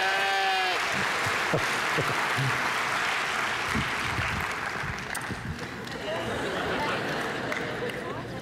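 A crowd applauds steadily and loudly for the whole stretch, a dense wash of clapping that stays even throughout, with a brief high vocal cry near the very beginning.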